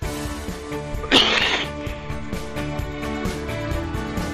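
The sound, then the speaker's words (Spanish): A single harsh, explosive cough from a coughing fit bursts out about a second in, loud, over a steady tonal background that continues afterward. “Bueno, mientras me ha dado un ataque de tos horroroso.”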